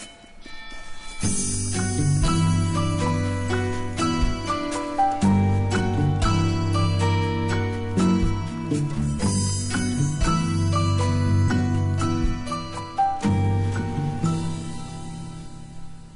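Instrumental music plays steadily for the whole stretch, with sustained tonal notes and regular rhythmic accents at a full, even loudness, and no voices.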